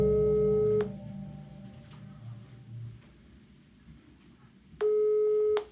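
telephone ringing tone

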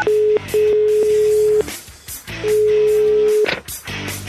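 telephone dialing tones

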